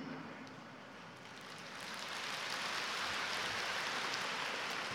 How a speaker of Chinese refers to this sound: 鼓掌的有一半的是没听懂。我的理解就是你们想叫我解释一下，所以才鼓掌的。